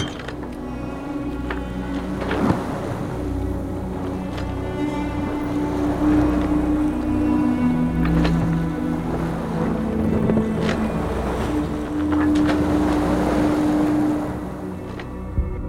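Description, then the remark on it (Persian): A ship moves steadily across the sea: a constant low engine-like rumble with water wash, scattered creaks and mechanical clanks, loud throughout, with no voices. “و کشتی ها را مسخر شما گردانید تا بر صفحه دریا به فرمان او حرکت کنند.”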